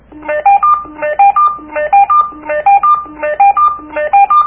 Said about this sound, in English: So the ringtone, if you want to let somebody know that you're about to contact them. So say you've got 3 walkie-talkies, and, of course, you got 3 different people using them.